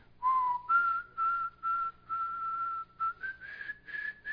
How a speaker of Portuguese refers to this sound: Quando foi um dia, um teve uma recaída e começou a assobiar.